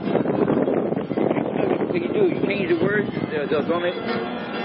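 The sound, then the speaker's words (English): Steady, gusty wind roars across Pacific Avenue, an open street, on a windy day, buffeting loudly throughout, while indistinct voices talk underneath the rushing noise. “And that noise, of course, is the wind on Pacific Avenue.”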